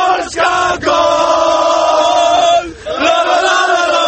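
A large crowd of football fans roars and chants together in sustained, loud voices in the fan zone in central Warsaw, Poland, at the opening of the championship, with a brief dip before the cheering swells again.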